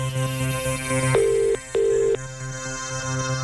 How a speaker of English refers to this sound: If your phone rings around about now, you got to answer with Spin …